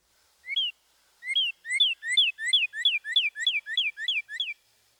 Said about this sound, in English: When comparing the two-noted phrases, listen for the cardinal's purdy, purdy, purdy.